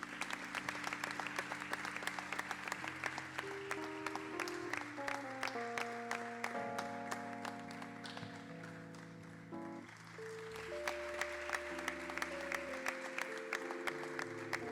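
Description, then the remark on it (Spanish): A crowd applauds steadily for about fifteen seconds at the prize-giving of a sung copla contest, dense clapping that never lets up, while sustained instrumental music plays underneath and shifts through several notes. “Fuerte el aplauso.”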